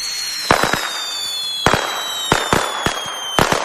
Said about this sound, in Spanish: El sonido de la pólvora en petardos, tracas, cañones, mascletás, un elemento de nuestra cultura, sí, pero que también plantea, como con el viento, una importante cuestión de seguridad.